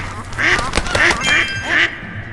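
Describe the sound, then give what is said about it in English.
A duck in a video game quacks about four times in a quick, uneven series, each quack a nasal, buzzy honk, fairly loud over a faint background hiss. “Come on, little duck. Come on, quackers.”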